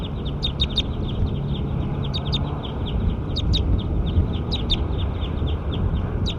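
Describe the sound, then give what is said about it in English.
A bird, recorded as bird 7, calls in repeated bursts of short, high-pitched chirps, a few quick notes at a time, returning every second or so over a steady, rumbling background noise. “Bird 7 might be something.”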